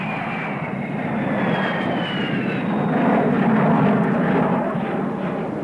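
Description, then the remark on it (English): A jet airliner's engines roar steadily and loudly throughout, a broad continuous rumble with a faint descending whine layered on top, no voices present. “Our best to you from the Gold Rush crew of the Golden Nugget Jet.”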